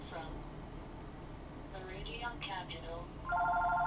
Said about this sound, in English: Who the heck is calling me? Let that phone ring. I don't answer my house phone. It's, damn, what time is it? Meridian Capital. Don't know that number. Let it go.